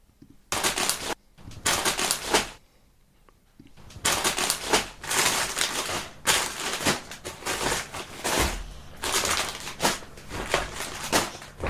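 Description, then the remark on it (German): Someone rummages through several plastic bags searching for something, producing loud, crinkly rustling in irregular bursts with a short quieter pause before the crackling resumes steadily. No one speaks. “Ich habe wie gesagt mehrere Tüten.”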